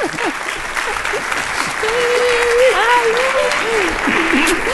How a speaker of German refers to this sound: Bitte großer Applaus.